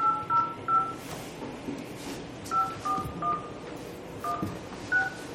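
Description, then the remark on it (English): A string of about ten short telephone keypad beeps, each a steady two-tone chirp, tapped out in uneven clusters over a low background rumble as a number is dialed to place a phone call, with no one talking. “Yes, call Ray at this point.”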